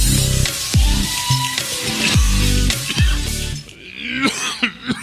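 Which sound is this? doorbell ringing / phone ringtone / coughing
coughing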